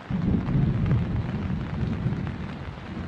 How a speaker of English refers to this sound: Anyway, I just cannot wait for this rain to end tomorrow morning and we can go home and just whatever.